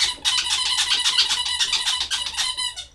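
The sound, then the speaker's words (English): A squeaky toy is squeezed over and over, giving a loud, rapid string of shrill, creaky squeals that run together for about three seconds before trailing off. No one speaks. “has a number of these creaky, screechy sounds.”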